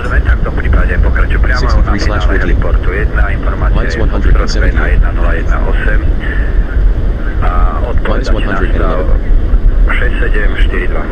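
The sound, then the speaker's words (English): A loud, steady airplane engine drone fills the cabin throughout, a constant low rumble with voices talking over it the whole time. “you would think that being inside a plane you would hear much of the engine, but apparently not.”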